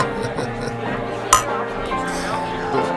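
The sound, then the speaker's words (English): A single bright clink of glasses tapping together in a toast, sharp and ringing briefly, over steady background talking from several people. “Whoa, it's like a wind chime up in here.”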